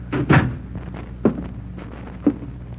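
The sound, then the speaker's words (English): A door is opened with a few dull wooden thumps and clunks, spaced about a second apart, with no one talking. “As soon as she opened the door, I knew she'd found out.”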